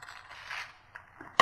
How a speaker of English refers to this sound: On the creased edge, Draw half of a heart. Just like this. And then using scissors, cut out the heart.